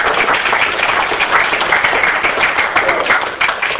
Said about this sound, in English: One applause. Okay.